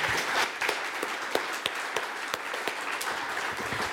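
An audience applauds two candidates for public office steadily for several seconds, a dense wash of many hands clapping together with occasional sharper claps standing out, moderately loud and sustained without any talking.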